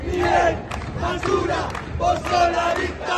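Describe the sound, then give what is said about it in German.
A crowd of protesting pensioners outside the Congress building in Buenos Aires, Argentina, shouts and chants against President Javier Milei in loud, sustained voices while sharp metallic clangs from pots being struck cut through at irregular moments, with whistles mixed into the din. “Sie schlagen auf Kochtöpfe und pusten in Trillerpfeifen. Und sie schreien, Milei, du bist Abfall, du bist die Diktatur.”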